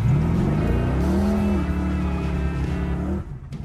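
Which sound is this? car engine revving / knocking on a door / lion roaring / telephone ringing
car engine revving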